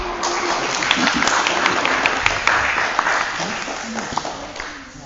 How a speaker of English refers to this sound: So please give him your kind attention and a big round of applause.